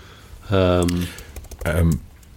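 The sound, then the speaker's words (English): Quick, light clicks of typing on a computer keyboard, entering band members' names followed by the word car, coming in short bursts between louder stretches of a voice speaking. “I'm just going to work through all of the … now by typing their names followed by car.”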